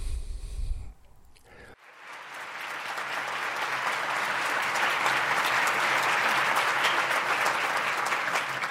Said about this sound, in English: It's not often I get a standing ovation before I've said anything.